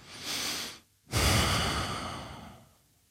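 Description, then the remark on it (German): Two deep, audible breaths: a shorter inhale, a brief pause, then a long, full exhale that slowly fades out. No talking. “Das war die Antwort. Tief atmen.”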